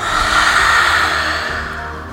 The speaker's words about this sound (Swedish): Andas in med näsan. Ut genom munnen, ut med tungan.